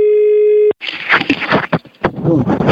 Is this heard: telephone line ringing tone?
yes